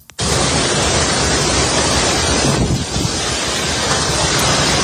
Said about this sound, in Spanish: El episodio más intenso se ha vivido en la cala de Mijas, en donde el viento ha arrancado árboles, ha derribado parte del alumbrado de Navidad, incluso ha llegado a sacar barcos del agua y arrastrarlos hasta tierra. Así sonaba.